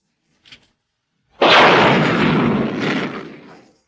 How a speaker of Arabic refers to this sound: هل سمعت صوت الانفجار؟